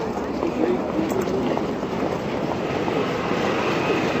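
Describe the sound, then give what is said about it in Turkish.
A tram rumbles steadily as it pulls in to a stop, its rail noise a dense continuous roar with faint clattering and a brief squeal. “Yeniden tramvay durağına gideyim bari.”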